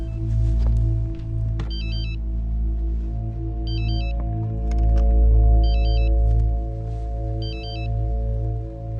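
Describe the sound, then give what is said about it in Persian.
A mobile phone ringtone chirps in four short electronic bursts at a steady interval over a constant low droning hum with no one speaking. “گوشی اتاس.”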